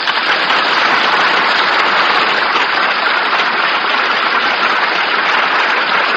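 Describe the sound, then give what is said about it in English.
A studio audience on the radio show Screen Director's Playhouse applauds actress Jean Crane, tonight's star, in a dense, steady wash of clapping that holds at full loudness for about six seconds, crackling like heavy rain, with no voices over it. “Thanks so much for your applause, but as an actress, I know only too well how much of it rightfully belongs to George Seaton, who directed Apartment for Peggy.”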